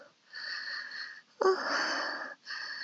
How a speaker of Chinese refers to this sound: 呼吸还带着喘息声的我，羞得满脸粉红